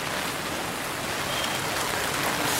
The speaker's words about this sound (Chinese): 那今天现在在下雨，所以我现在带你们去看一下我家附近的小巷子，走吧。